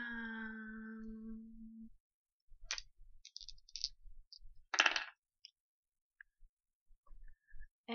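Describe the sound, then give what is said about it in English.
A steady electronic hum fades out, then dice are rolled, rattling and clattering onto a hard surface in a few sharp bursts of quick clicks, with short pauses between tumbles. “It's actually even more like dice that I'm rolling, because I stole them, kind of by accident.”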